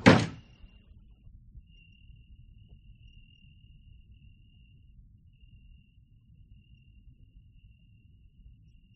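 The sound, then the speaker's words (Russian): A door slams shut with a single sharp, heavy thud right at the start as a count shuts it behind Kamyshev, then fades into quiet room tone with a faint, steady high-pitched hum lingering in the background. “Граф захлопывает дверь за Камышевым.”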